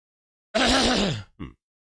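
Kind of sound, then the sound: human body sound, cough into the microphone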